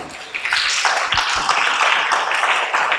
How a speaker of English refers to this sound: Clap for Jesus and take your seat. Oh, clap for Jesus properly.